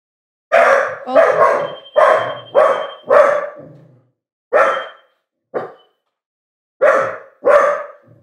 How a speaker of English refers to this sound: I told you, her bark's like really aggressive for such a small dog. Small dog syndrome.